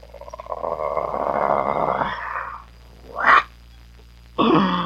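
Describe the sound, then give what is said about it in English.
A long, rough growl rumbles for a couple of seconds, then a short sharp snarl bursts out, and after a pause another throaty growl starts up. No one speaks. “we give the growl, which goes...”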